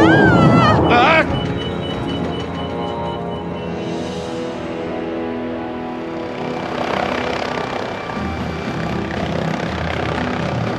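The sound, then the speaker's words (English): A steady engine of an aircraft with more than one engine drones in flight through wind, a dense, continuous roar with propeller-like harmonics, preceded by a brief burst of voices at the start and rising slightly in intensity toward the end. “What was that bang? One of the engines. It's all right. We've got another.”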